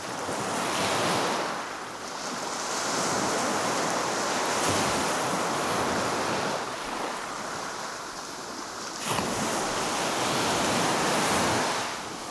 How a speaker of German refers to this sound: Hier kann sie nun endlich in Ruhe entspannen und dem Rauschen des Meeres lauschen.